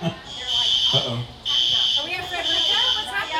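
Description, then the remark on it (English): A shrill, high-pitched fire alarm buzzes in long repeated bursts with a brief gap between them, loud and steady, while people talk underneath it. “You got yourself a little alarm going.”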